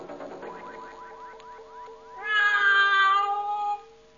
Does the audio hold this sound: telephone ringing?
no